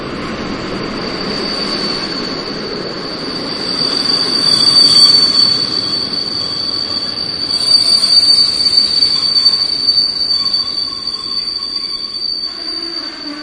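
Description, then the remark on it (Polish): A historic train rolls in with loud, sustained high-pitched wheel squeal, swelling twice over the low rumble of the cars before easing off as it slows. “Jak się podróżuje historycznym pociągiem?”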